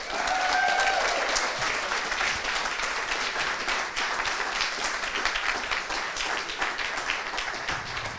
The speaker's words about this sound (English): Round of applause for all of these folks.